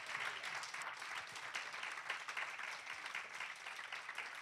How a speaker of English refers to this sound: And he's the one that redeemed you. He took the place and nailed it all on the cross. Boy, y'all ought to give him a hand clap. Hallelujah.